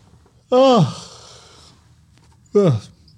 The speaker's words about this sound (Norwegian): Gjespa når jeg prater om penger. Gjespa. Og det ikke fordi at jeg synes det kjedelig.